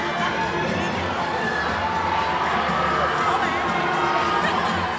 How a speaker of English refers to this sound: The red carpet at the Berlinale never ceases to thrill the diehard cinephiles and curious passerby who call Berlin home. Potsdamer Platz comes alive with an international crowd that is buzzing with a passion for cinema.